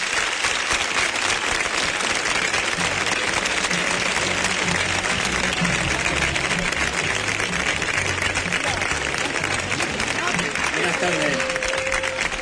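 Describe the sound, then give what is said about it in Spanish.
Loud, sustained applause from a large crowd fills the whole stretch, a dense steady clatter of many hands clapping, with faint cheers and murmuring voices mixed underneath. “Para eso pediría el mayor aplauso de toda esta tarde.”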